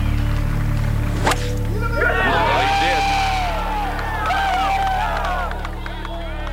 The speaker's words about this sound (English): There was a huge just outpouring of noise and cheering, and Daly was just soaking it all up. Now listen, the applause won't stop.